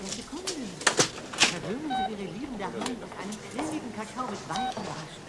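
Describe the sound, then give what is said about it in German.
Supermarket checkout ambience as a woman customer puts her groceries on the conveyor belt: a couple of scanner beeps and the knock and clatter of groceries set down on the belt, with a person speaking steadily over the top. “Jupiter stand in der Warteschlange an der Kasse und vor ihm legte gerade eine Kundin ihre Einkäufe auf das Laufband”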